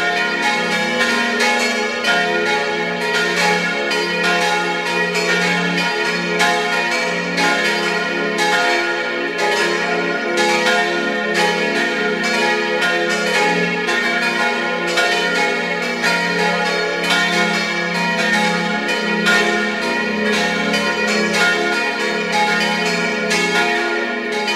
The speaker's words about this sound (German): Es ist 12 Uhr. Sie hören die Glocken der Kirche zum heiligen Ottmar in Geisau in Vorarlberg.